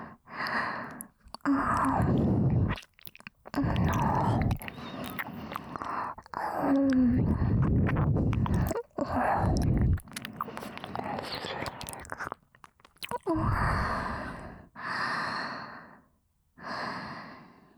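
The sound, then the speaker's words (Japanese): ASMR ear licking in a Japanese ear-licking consultation roleplay: wet, smacking mouth sounds in repeated bursts of a second or two, with breathy sighs and short silent gaps between them, fairly loud and with no talking. “今の耳なめはいわばご挨拶です。”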